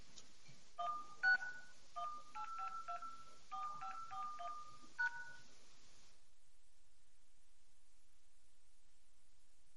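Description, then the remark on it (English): A rapid series of telephone keypad DTMF tones, about a dozen short beeps in quick bursts as a meeting ID followed by the pound key is dialed, clear over faint line hiss, then silence. “Meeting ID followed by pound.”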